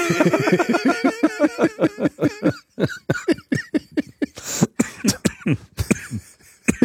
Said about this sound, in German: Jetzt muss er auch noch husten. Großer Gott. Ich hatte es ja gesagt, ich hatte wirklich eine schlimme Nacht.